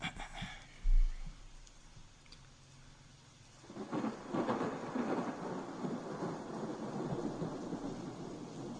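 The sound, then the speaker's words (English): A deep rumble of thunder booms early on, then steady, hissing rainfall swells in and keeps pouring outside, fairly loud, with no voices. “It's raining outside.”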